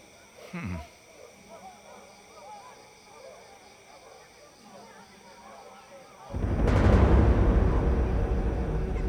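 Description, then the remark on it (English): A monkey chant performance in the middle of the night: many voices chanting in a fast, rhythmic pattern, then swelling abruptly into a much louder, denser roar of sound. “That's a performance of some sort. It sounds like a monkey chant.”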